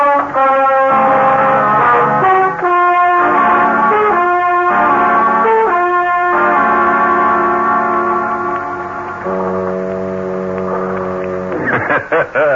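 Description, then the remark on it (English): Deep, sustained foghorn tones drone loudly near the end, after a run of brassy pulsing blasts, sounding at a waterfront bar, with no one talking. “Quiet spot, huh? Just foghorns and a bartender that hates the world.”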